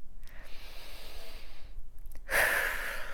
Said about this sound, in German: Genau, wieder atmen, tief ein- und ausatmen, dabei die Hände abschütteln.